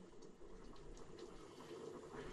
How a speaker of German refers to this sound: So, man hört auch bereits das Wasser kochen in der Hotdog-Maschine. Das ist okay, das lassen wir so.